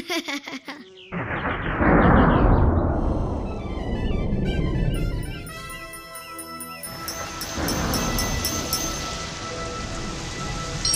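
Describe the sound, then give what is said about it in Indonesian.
Heavy rain pours down in a dense, steady hiss, swelling loud soon after the start and continuing throughout, with a faint tonal layer and no voices. “Hujannya deras sekali.”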